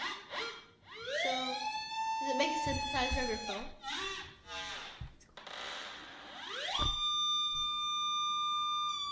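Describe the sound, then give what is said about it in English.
Buzzy synthesizer tones from the Filtertron app on an iPhone glide and warble up and down in pitch through its resonant analog filter, with siren-like rising sweeps, before settling into a steady, bright sustained note. “Does it make a synthesizer of your phone?”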